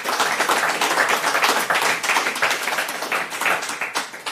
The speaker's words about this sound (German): Willkommen. Applaus